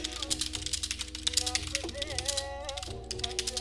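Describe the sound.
Rapid typing on a computer keyboard as someone types a search about why the TLC show Sister Wives was canceled, a steady flurry of light plastic key clicks running throughout, with a faint voice and tonal sound murmuring underneath.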